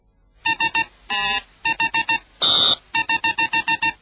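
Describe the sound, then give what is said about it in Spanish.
Electronic beeps encoding a sum: three quick beeps, one longer odd-sounding tone standing for a plus sign, four more beeps, a harsh buzzing tone standing for an equals sign, then seven rapid beeps. No one speaks. “Claro, 3 pi, pitido raro, o sea, más. 4 pi, un zumbido que es igual a, o sea, equivale al igual, 7.”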